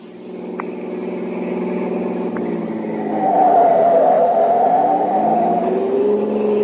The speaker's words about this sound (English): The Colonel's in a hurry. The car's going as fast as it can